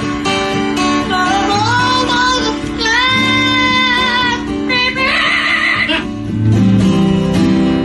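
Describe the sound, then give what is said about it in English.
A large parrot sings a song in a loud, warbling voice, holding strained notes and sliding between pitches for several seconds without a break. Nobody talks over it. “Here's Tico singing ….”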